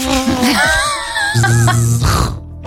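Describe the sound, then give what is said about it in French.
A person imitates a tiger mosquito's buzz with a loud, wavering nasal drone that rises and dips, then turns rougher and lower before ending, with no other speech. “La météo en Seine-et-Marne, pas mal le mime du moustique tigre. Quel bruit ferait un moustique tigre?”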